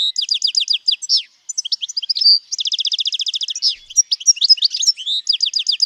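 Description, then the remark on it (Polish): A European goldfinch sings a fast, bright, tinkling song of high twittering notes and rapid trills, with a buzzy run of repeated notes in the middle, continuous and clear with no voices. “Szczygieł.”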